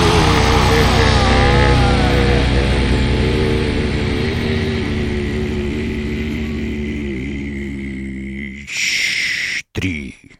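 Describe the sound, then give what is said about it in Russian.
A voice imitates a Moskvich car engine running, a loud, steady droning rumble with wavering pitch that holds for about eight seconds, then breaks into short, harsh bursts before cutting off. “Моторы.”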